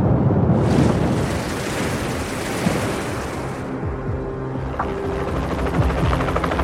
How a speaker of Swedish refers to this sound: Helikoptern lyfter, flyger dit och sänker ner ett neonorange nät.